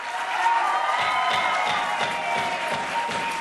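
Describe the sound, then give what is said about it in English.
A crowd of activists cheers and applauds steadily at a Toledo City Council meeting after the council votes to put the Lake Erie Bill of Rights before voters, with a dense wash of clapping and scattered shouts and whoops, moderately loud and sustained throughout. “Toledo City Council last year voted, some members admittedly reluctantly, to put the Lake Erie Bill of Rights before voters, and that was good news to activists in the crowd.”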